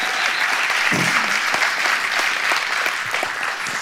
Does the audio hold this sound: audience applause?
yes